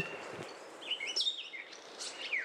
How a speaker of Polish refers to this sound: A wiesz, dzisiaj była wilga, a potem dzięcioł, potem jeszcze kawki, różne dźwięki. Wszystko było. Hehe. Takie trochę szydercze jakby. Znowu szpak zaczyna.